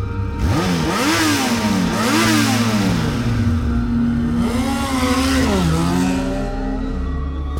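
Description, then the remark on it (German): A motor vehicle engine revs hard several times, pitch climbing and dropping with each gear change, then roars off at speed; loud, with no voices. “Jetzt rast er wieder weg!”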